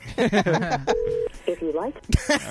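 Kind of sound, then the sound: signal or alarm, telephone keypad dialing tones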